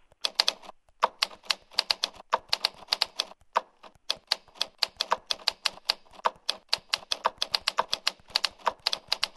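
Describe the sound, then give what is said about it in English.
Steady, brisk typing of the line "the quick brown fox" on a clicky keyboard, sharp key strikes in quick bursts with occasional deeper thunks from the space bar, clear with no talking. “You notice the difference in the sound because there's the keys themselves, but then you have the space bar.”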